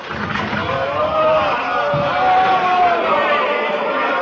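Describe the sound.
A large crowd shouting together for the release of Bar Abba, a dense, steady roar of many raised voices that swells and falls slightly but stays loud throughout the few seconds.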